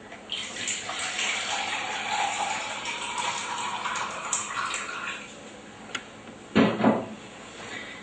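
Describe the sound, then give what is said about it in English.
About 1.5 cups of warm water pour steadily into a bowl of bread mix for several seconds, a continuous splashing trickle, followed by a couple of louder thumps or clinks near the end. No one speaks. “And I need 1.5 cups of warm water.”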